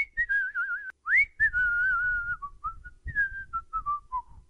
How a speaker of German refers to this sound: Nachdenklich pfiff er leise vor sich her.